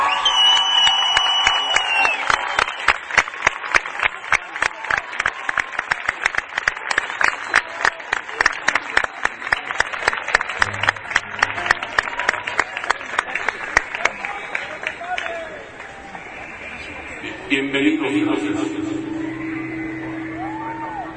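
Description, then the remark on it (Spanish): A large crowd at the Festival de las Culturas bursts into loud applause with cheers and whistles as a performer takes the stage, settling into steady rhythmic clapping that gradually fades, followed by a brief murmur of voices. “Y de nueva cuenta, yo quiero pedir un fuerte aplauso.”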